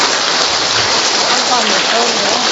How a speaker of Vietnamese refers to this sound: Vỗ tay to lên thưa anh chị em.